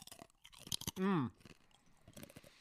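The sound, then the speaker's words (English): Crisp crunching of someone biting and chewing a dry Wheat Thin cracker, a run of brittle snaps with a brief loud vocal hum or groan partway through. “You ready to crunch?”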